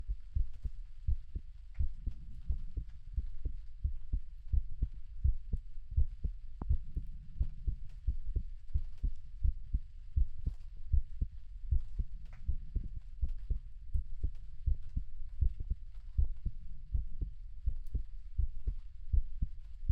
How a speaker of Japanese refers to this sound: ほら、耳を澄ませて。私の心臓の音、聞こえるよね。